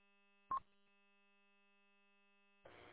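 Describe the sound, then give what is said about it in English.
A faint, steady electronic buzz from a plugged-in phone on a workbench hums continuously in the background, broken by a brief click-like burst early on and a patch of rougher noise near the end. “The phone's plugged in, buzzing on my bench.”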